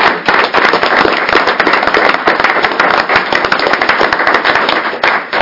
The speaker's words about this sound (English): And I think recognition of Mr. Val Fuel's service deserves a round of applause as well.